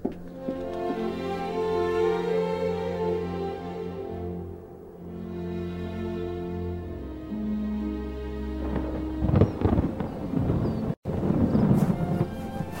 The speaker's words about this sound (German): Ja, nur schnell, bevor der Sturm dort draußen noch schlimmer wird.